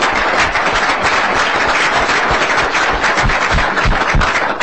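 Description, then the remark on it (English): Steady applause from an audience at an Environment and Natural Resources Policy Committee meeting, a dense crackle of many hands clapping at once, holding loud and even for the whole stretch with no voices over it. “Everybody give the group a warm round of applause.”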